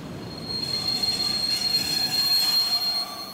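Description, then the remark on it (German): A steady, high-pitched metallic squeal of train wheels on rails at the railway station in Stralsund rings out over a low rumbling rolling noise, continuous, with no voices. “Auch am Stralsunder Bahnhof liegt eine Stolperschwelle.”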